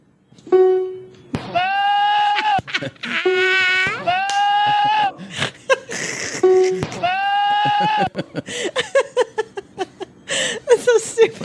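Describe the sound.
Loud, wavering goat bleats repeat in a choppy, edited sequence, cut together with short voice-like bursts, ending in a rapid run of clipped, stuttering fragments.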